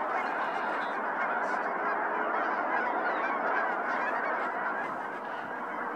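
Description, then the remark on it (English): A dense chorus of snow geese honking nonstop as a large flock takes to the air, the overlapping calls forming a loud, steady wall of sound with no one talking. “Here's a flock flying up.”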